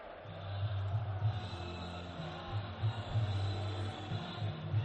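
Racing's players, circling the centre of the pitch at El Sardinero stadium, chant "campeones" to celebrate promotion, a dense wash of many voices rising and falling in a steady rhythm, with crowd noise filling the background.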